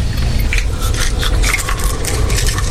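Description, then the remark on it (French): A coffee machine hisses and sputters steadily as coffee flows for a young man waiting in dim light, a low hum beneath irregular gurgling bursts, with no one speaking. “Seul dans la pénombre, le jeune homme attend que le café coule.”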